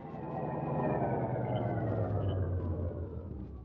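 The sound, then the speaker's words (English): An old car engine rumbles steadily, its drone slowly winding down in pitch as the vehicle slows toward a stop. No voices are heard. “It's as far as we go in this jalopy.”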